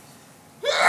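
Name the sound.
sneeze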